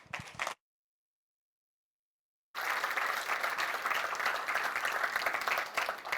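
An audience at a talk about sharing code breaks into steady, sustained applause for the speaker, many hands clapping together in a dense, even wash. A brief burst of sound is followed by a couple of seconds of silence before the clapping starts.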